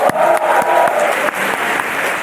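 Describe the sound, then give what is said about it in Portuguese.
A crowd of young people at a PJ youth political event shouts and cheers together in answer to a call for more young people in politics, a loud, sustained burst of voices mixed with clapping that holds steady for a couple of seconds. “Por mais jovens na política, pessoal, quero ouvir um grito aí de vocês.”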